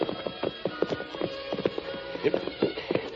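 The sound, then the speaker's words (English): Horses' hooves clop in a steady, uneven rhythm, several sharp hoofbeats in quick succession at moderate volume, as the horses come to a stop in woods beside climbing railroad tracks at sunset. A faint low hum sits underneath, and there are no voices. “We'll leave the horses here.”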